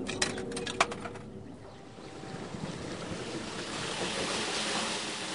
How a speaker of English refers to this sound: There's a water filling station here. He gets about 90 gallons of water for each quarter dropped into the machine.